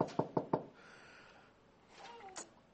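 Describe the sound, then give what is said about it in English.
Three quick, sharp knocks on a door in a steady rhythm, fairly loud, followed by a short pause and a faint voice murmuring briefly. “Now, Carter comes to your door.”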